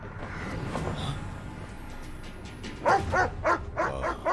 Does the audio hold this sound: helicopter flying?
no